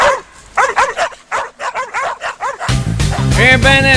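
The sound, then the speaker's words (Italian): A rapid string of sharp dog barks and yips, several close together, then a burst of music and denser barking takes over near the end. “Sguinzagliate i cani, maledetti! Sguinzagliate i cani, cribbio!”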